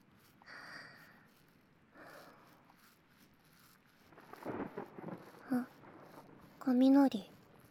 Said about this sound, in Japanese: 雷。私、雷も好きなんだ。なんだかワクワクする。